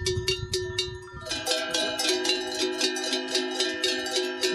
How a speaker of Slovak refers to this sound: Na ovce, to sú plechové zvonce, hej. To sa používajú na ovce tieto menšie, alebo šuláre na ovce a potom na kravy také väčšie.